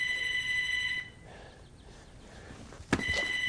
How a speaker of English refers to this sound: Inside the store, the phone rings. Charles looks at Eric. My guess is that's for you.